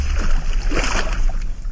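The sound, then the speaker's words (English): A sealed coffin splashes into a glass box filled with water, followed by sloshing and churning water that stays loud for the rest of the moment. “And put it in a glass box filled with water.”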